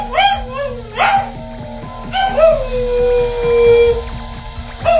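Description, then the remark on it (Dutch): A pet dog whines and howls at home when its owner comes in and calls hello, in a series of rising, wavering high-pitched cries, with short yelps between them and a longer drawn-out howl in the middle, loud and alone without speech. “Op een gegeven moment piept hij heel erg.”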